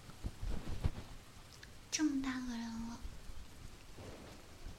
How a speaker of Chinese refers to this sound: 老是让我操心，下雨了也不买伞。以为是小雨，这么大的雨，还小啊？